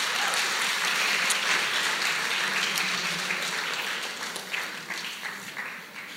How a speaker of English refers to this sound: Can we thank every single person that's helped us today? Thank them. And let's give the Lord a hand.